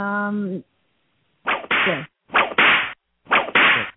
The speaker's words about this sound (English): I'll do the whip sound quick.